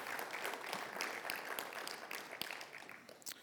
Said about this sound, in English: Well, I hope, go ahead. Yeah, you can clap about that.